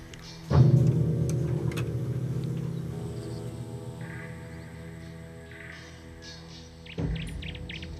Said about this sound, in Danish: Det er faktisk dig, vi hører her i baggrunden spille sammen med Nattergalen.